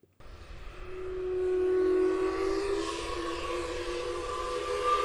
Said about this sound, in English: On the days the mill is operating, a century-old steam whistle sounds at noon over Park Falls. It's been silent for most of the past year.